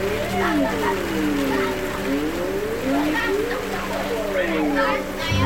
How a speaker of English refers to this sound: nice ambient track with the rain and the children's voices.